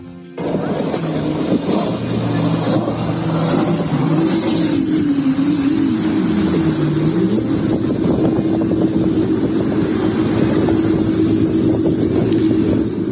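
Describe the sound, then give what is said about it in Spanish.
An inflatable boat's outboard motor drones loudly and steadily, its pitch rising and falling as the boat drives onto a beach while being chased by a Guardia Civil patrol boat, with heavy wind and water noise throughout and no voices. “Es la llegada, el desembarco literal de una lancha neumática adentrándose en la playa, perseguida por una patrullera de la Guardia Civil.”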